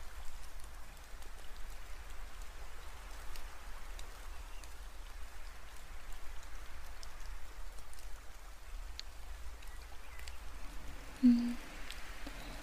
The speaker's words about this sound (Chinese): 不过又开始下雨的话也是没有办法呢